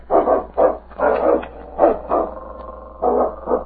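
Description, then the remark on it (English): A dog barks in quick, excited bursts at an animal it has found, about seven loud barks in an irregular rhythm with short pauses, with no one speaking. “They had covered over a mile when they suddenly heard King up ahead. King's found something.”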